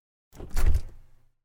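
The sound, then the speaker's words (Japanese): A refrigerator door swings open: a quick scraping rustle, then a dull, low thud as the seal releases, trailing off into a short soft rattle. No voices. “ポットはあるけど、お水は…この冷蔵庫にあるのかな？”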